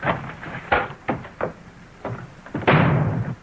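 door opening and closing

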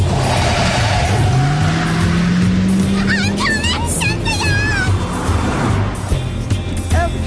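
car driving off

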